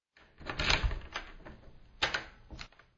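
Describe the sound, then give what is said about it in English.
A door opens with a cluster of sharp mechanical clicks and rattles from the latch and handle, a brief pause, then another burst of clattering. No voices. “As the door opened, Silas was surprised to see 2 such different characters waiting for him.”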